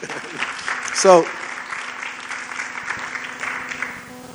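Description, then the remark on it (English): An audience claps steadily for several seconds, a dense, even patter of many hands, with a brief voiced shout or cheer rising above it near the start. “You can clap to that.”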